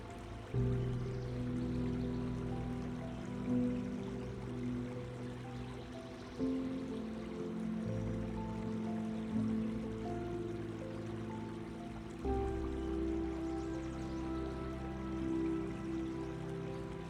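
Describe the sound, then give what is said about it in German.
A steady stream of flowing water from a brook runs continuously with a soft, even babble and faint trickling. It is quiet and unbroken, with no voices present. “Konzentriere dich nun auf das Geräusch des Wassers und lass alle anderen Gedanken los.”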